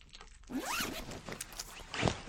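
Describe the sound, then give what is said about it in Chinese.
A zipper rasps open in one long rising pull, followed shortly by a second quicker zip near the end, both fairly loud, with no talking. Two people pull open the zippers on each other's black leather boot shafts to take the boots off. “说完，两个人竟同时把对方靴筒的拉链一拉，把黑色皮靴脱下扔到一边”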